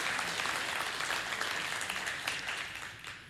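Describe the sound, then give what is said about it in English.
A crowd breaks into steady applause, many hands clapping at once in a dense, continuous patter that holds for a few seconds before gradually thinning out. No one speaks. “There we go. That's where the clap.”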